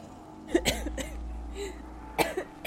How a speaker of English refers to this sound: Half a second later, she coughed and spluttered, a fine mist of black droplets exploding into the air.